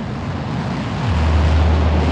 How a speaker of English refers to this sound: Engine's beginning throttling down now. Shortly.